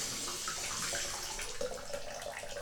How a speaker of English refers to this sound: All right, now this bathtub's about to overflow. So we gotta turn the water off. Oh, I'm turning it the wrong way. My foot is so dumb. Go off. There we go.